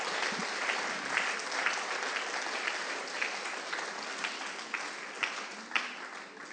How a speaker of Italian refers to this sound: Allora vogliamo fare un applauso al Signore. Alleluia.